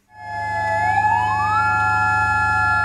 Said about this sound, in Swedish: 9 minuter före 1 på eftermiddagen, det klockslag som jordbävningen inträffade, ljöd sirener i Mandalay för att markera starten på en tyst minut.